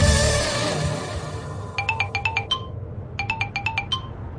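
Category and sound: household object, telephone ringing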